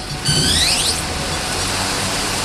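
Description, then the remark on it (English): A quadcopter drone with four helicopter blades and four spindly legs lifts off from the warehouse floor of a company hangar at Springfield Air Park: a high, multi-toned whine sweeps upward in pitch over the first second, then settles into a steady, hissing whir with no voices. “Biafore shows off a UAV that looks sort of like an insect with four helicopter blades and four spindly legs.”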